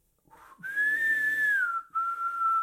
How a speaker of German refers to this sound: Sein wohltönendes Pfeifen klingt wieder auf, fein mossiert, sehr luftreich prustend, während seine Fäuste großtrommelnd auf die gepolsterten Knie schlagen.